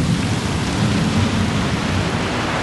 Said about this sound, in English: Like, this is the kind of rain where I would literally, like, when I got home, it's like I was walking in a lake. So I just gotta chill out here and wait.